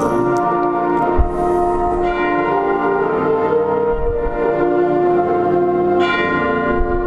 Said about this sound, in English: Easy on the chimes.